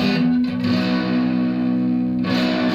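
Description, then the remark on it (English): A loud, sustained chord on a six-string Fender Strat-style electric guitar through a distortion pedal with all dials set to the middle, thick and buzzing with rich overtones, ringing steadily for a few seconds with a brief re-strike near the start and no voices. “This is all the dials up the middle, just a nice distortion.”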